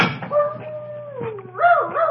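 A dog named Chip yelps and whines in a long, wavering cry that slides down in pitch, then rises again into shorter, bending yelps, moderately loud with no talking over it.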